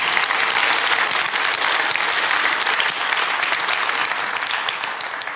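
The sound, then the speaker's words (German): An audience at a talk claps steadily and loudly, applauding people who helped the speaker deal with security vulnerabilities; a dense wash of many hands that holds throughout and fades slightly toward the end, with no voices standing out. “Von daher bitte noch mal einen Applaus für Leute, die mir persönlich geholfen haben.”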